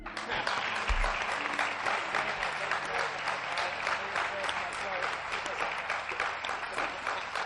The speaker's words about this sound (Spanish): tenemos una grandísima noticia y tenemos algo que celebrar todos los que estamos aquí, y es que hay vida después de la vida, que la muerte no es el final, y creo que por esto nos merecemos otro aplauso.